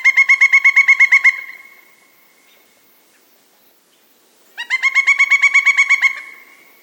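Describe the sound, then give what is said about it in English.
A pileated woodpecker calls from the trunk of a large conifer tree in two loud, ringing bursts of rapid, evenly spaced notes, each run lasting over a second with a quiet pause between, clear with no talking. “Listen to Woody's muse call from the trunk of a large conifer tree.”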